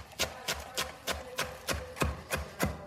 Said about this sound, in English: And what I like to do is I just like to bundle it up into a tight bunch and just run my knife right through that. So many good sounds, lots of chopping of fresh, beautiful ingredients here.